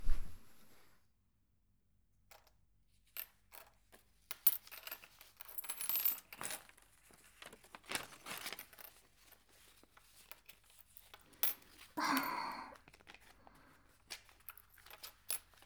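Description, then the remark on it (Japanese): Coins clink and drop onto a surface in irregular bursts as a shop's sales takings are counted, mixed with the soft rustle of paper bills being handled. No one speaks. “もう、小銭は私が数えるから。ほら、店長はお札。”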